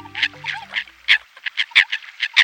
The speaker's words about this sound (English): It's a calm winter morning. The lake is still. What is that sound? Ah, the cackling, grunting, and croaking of American coots calling to one another. Coots are plump, chicken-like waterbirds, very dark gray.